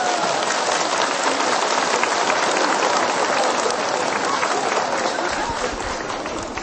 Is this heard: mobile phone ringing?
no